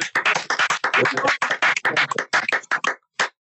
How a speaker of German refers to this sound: habt ihr euch unseren Applaus verdient, oder? Als ersten Applaus seit langem. Ja, bravo.